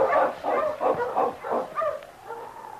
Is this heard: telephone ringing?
no